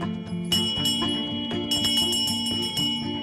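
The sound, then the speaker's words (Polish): A school bell, once used to call pupils to school and to the classroom, clangs repeatedly in a quick, uneven rhythm inside a classroom, each loud metallic strike ringing out over the last, with no voices. “Dzwonek, którego używano właśnie po to, by wszystkich uczniów tutaj zwołać do szkoły, czy zwołać do sali lekcyjnej, bo my właśnie w takiej się znajdujemy.”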